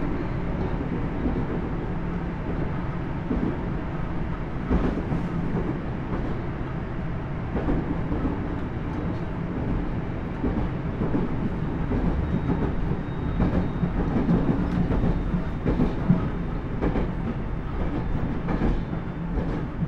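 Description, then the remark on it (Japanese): A train runs steadily on its rails as it approaches its final stop, Tokyo. A heavy low rumble is broken by repeated rhythmic clacks of wheels over track joints, holding an even loudness throughout with no voices. “まもなく終点の東京に到着をいたします。”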